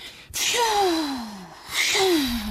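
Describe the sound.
A voice imitates the north wind blowing: two breathy whooshing gusts, each with a falling whistle-like tone, fairly loud, with no speech.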